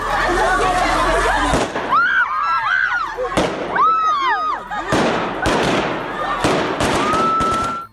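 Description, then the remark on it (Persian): Taliban security forces fire gunshots into the air at a protest by women in Kabul, a loud, irregular series of about six sharp bangs, while the crowd shouts and cries out in rising and falling voices throughout. “اعتراض شماری از زنان در کابل امروز با موترهای آبپاش و فیرهای هوایی نیروهای امنیتی طالبان مواجه شد.”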